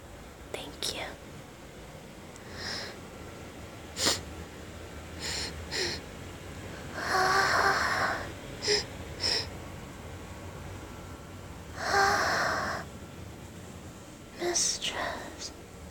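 A person sniffs quietly: two longer drawn-in sniffs separated by a pause, with a few short, sharp breathy sounds scattered around them against a soft, hushed background.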